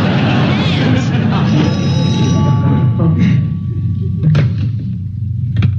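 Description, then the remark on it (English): A telephone rings with a steady electronic tone over a heavy, rumbling background, while muffled voices and some bumping noises continue around it. “Answer the phone.”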